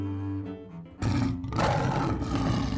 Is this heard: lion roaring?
yes